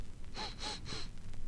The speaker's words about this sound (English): That were me sniffing.